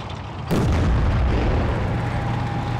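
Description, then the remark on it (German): A sudden, powerful explosion erupts after a brief quiet moment, then collapses into a long, deep rumbling roar of debris, from film footage of houses exploding and bridges being blown up. No voices. “Häuser explodieren und Brücken werden gesprengt.”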